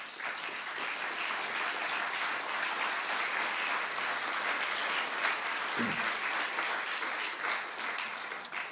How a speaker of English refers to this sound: And I'd like to honor Jim by asking him to stand up and give us a nice round of applause for Jim Lichtman.